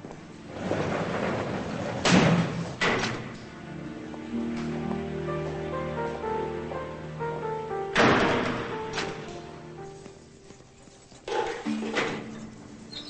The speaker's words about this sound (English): A guard opens the door, and she leaves.